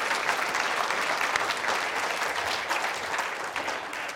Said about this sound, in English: So this is the team. Why don't you give them another round of applause? Thanks, guys.